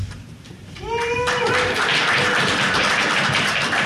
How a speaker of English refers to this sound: When you see us switch places, cheer like mad. Just go nuts. Seriously. Okay? Let's try.